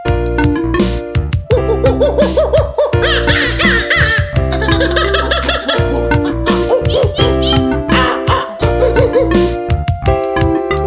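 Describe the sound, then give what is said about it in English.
Playful voices imitate monkey calls in quick, excited bursts of hooting and chattering, layered over a bouncy, loud musical backing that keeps a steady beat throughout. “They like to eat bananas and make those monkey sounds.”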